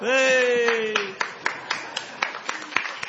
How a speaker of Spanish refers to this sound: Presidente. Me están aplaudiendo.